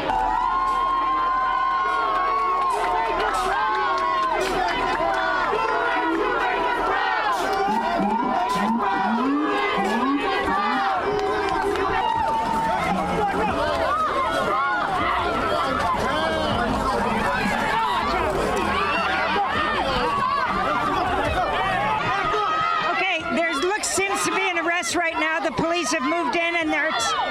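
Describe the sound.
A large protest crowd shouts and jeers loudly and continuously as police arrest someone, many voices overlapping in an agitated outcry, people shouting "shame", with scattered yells rising above the din and a chaotic burst of noise near the end.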